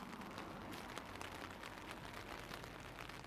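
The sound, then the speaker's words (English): Heavy rain pours steadily during coracle fishing, a dense, even hiss with scattered sharper patters of drops striking a surface, continuous throughout and fairly quiet, with no voices. “his son is carrying on the family passion for coracle fishing, even in heavy rain.”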